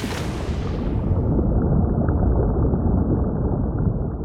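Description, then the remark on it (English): A brief bright wash of surf gives way to a muffled, steady underwater rumble, deep and continuous with the high sounds cut off, as if the listener has slipped beneath the ocean surface. “The sound of the ocean, both on the surface and below.”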